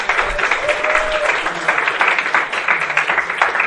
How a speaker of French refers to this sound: Je vous demande des applaudissements pour lui.